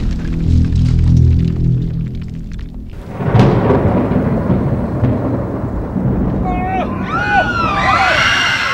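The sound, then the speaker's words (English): Low, muffled thunder rolls steadily across a grassy field, a deep rumble that swells into a broad wash of noise. Toward the end, faint warbling high tones sweep in above it. “As muted thunder rolled across the grassy field, a group of people burst from the bushes, running for their lives.”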